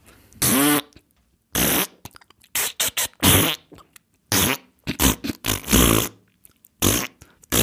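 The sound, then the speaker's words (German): A rapid series of loud fart noises, some buzzing and pitched, others short sputters, strung together in an uneven rhythm like a crude tune, with no talking. “Wer hätte es wenigstens versuchen können, die Melodie zu pupsen?”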